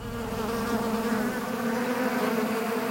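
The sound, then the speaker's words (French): A dense, steady buzzing of many bees, a continuous droning hum with shimmering overtones that holds at an even, fairly loud level throughout, with no voices. “Eh oui, des abeilles, car sa majesté, l'éléphant, craint l'abeille, un simple petit hyménoptère.”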